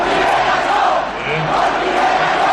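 A large crowd at Ferraz chants the political slogan "Con Rivera no" on the night of the 28th, a loud, dense roar of many voices that holds steady for a few seconds with a brief dip in the middle.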